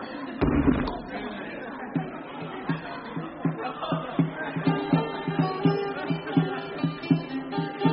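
A heavy door slams shut once near the start with a loud, deep thud, followed by a soft, rhythmic pulsing of music or chanting with muted beats.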